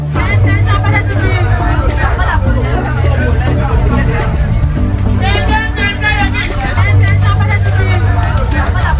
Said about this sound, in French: Sous un soleil torride, entre les cris des vendeurs et les embouteillages, je m'approche d'une vendeuse qui a devant elle plusieurs cajots de tomates rouges.